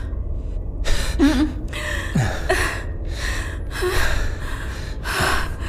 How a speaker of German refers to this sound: Ich krieg kaum noch Luft.